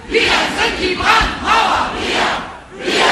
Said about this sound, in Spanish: Todos contra el fascismo, gritaron miles de personas este fin de semana cuando salieron a las calles para manifestar contra la alianza del partido Unión Cristiano Demócrata, el CDU, y la extrema derecha de Alternativa para Alemania, la polémica AfD.